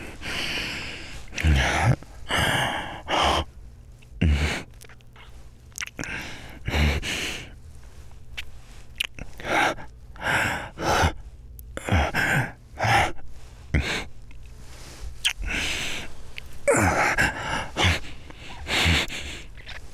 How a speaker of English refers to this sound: Except for maybe some deep fucking breathing.